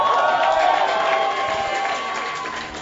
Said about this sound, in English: Praise God. Come on, give God a clap.